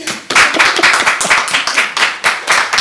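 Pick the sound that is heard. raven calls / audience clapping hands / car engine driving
audience clapping hands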